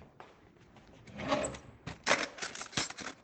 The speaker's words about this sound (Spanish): También escuché la de las cucharas.